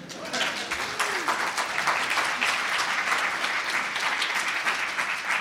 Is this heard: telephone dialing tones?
no